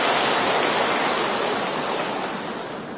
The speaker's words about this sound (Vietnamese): Trước khi giải đáp, tôi xin toàn thể chúng tôi đức tăng ni đạo tràng cho một tràng pháo tay để chúc mừng ngài.